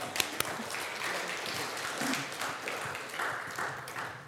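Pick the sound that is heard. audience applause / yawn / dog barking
audience applause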